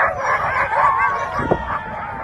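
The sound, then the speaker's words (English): A pack of sled dogs yips and barks together in a dense, continuous chorus, with high overlapping cries and a sharp yelp partway through. No one speaks. “Paulusi and others have fought to revive the dog sledding tradition that was almost wiped out.”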